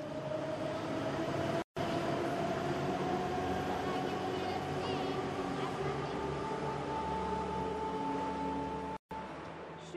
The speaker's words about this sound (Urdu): میں تہران کے metro station پر ہوں. میٹرو سفر کے لیے ایک بہترین وسیلہ ہے کیونکہ شہر میں ہمیشہ ٹریفک ہوتی ہے.